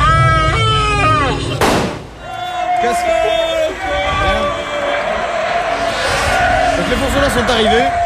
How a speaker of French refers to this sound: Pour un tir de grenade au-delà de la barricade, préparez-vous.